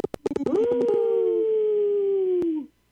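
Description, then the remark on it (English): A caller to Native Roots Radio imitates a wolf, letting out one long, sustained howl that rises and then holds a steady pitch, preceded by a few short clicks and yips, loud with no other talking. “Yeah, good howl.”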